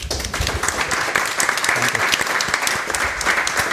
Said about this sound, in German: Vielen herzlichen Dank. Und ich glaube, die hat einen Applaus verdient.